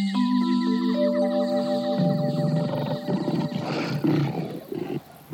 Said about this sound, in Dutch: Opeens klinkt er gebrul tussen de rotsen. Scar draait zich om en ziet een grote leeuw voor zich staan.